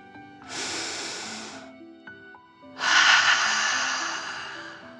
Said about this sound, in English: Breathe in through your nose, filling up your belly, and then out through your mouth, imagining you are breathing fire. Ready? Deep breath in and out.